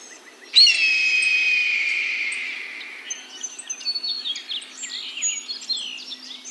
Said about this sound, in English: And there's something really transporting about listening to the sounds of the birds, communicating with each other, and hearing this whole other way of life.